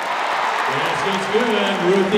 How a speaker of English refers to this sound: Crowds cheer baskets like this one from Oregon forward Ruthie Hebert on Sunday.